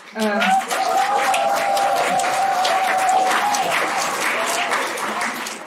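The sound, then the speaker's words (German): Grandmothers attending a European forum conference clap for the speakers in a dense, sustained burst of applause lasting several seconds, with a sustained tonal voice or cheer briefly rising above the clapping at the start. “Manche Omas machen sich eifrig Notizen und immer wieder gibt es bestätigende Zwischenrufe oder Applaus für die aktuellen Rednerinnen.”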